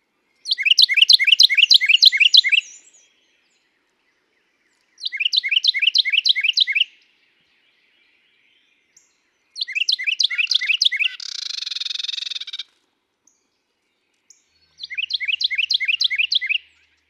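A male Carolina Wren sings loud, ringing tea-kettle phrases in four separate bursts of about two seconds each, separated by pauses, with a brief harsh rasping noise following the third burst.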